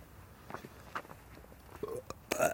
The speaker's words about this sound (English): That was like sort of a burp.